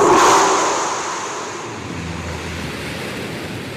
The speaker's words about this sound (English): Yep, that's the successful launch of the 7th test flight for Blue Origin's new Shepard vehicle. The reusable rocket is designed to take tourists to space and back.